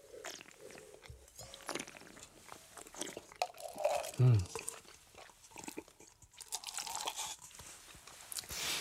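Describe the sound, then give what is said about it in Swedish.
Wine being slurped and spat into a porcelain spittoon: wet mouth noises and sputters, then one louder splashing spit with a brief ringing tone, followed by more soft slurping. “Nu låter jag, du stänker i våra spottkoppar här och som lyssnar för undrar, men det där låter ju inte speciellt bra.”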